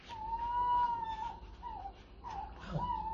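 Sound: owl call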